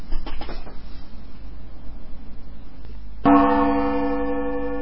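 A single gong strike, the Solder Smoke segment-transition gong, lands late after a stretch of hissy radio static and rings on with a bright, sustained metallic shimmer that slowly fades. No one speaks.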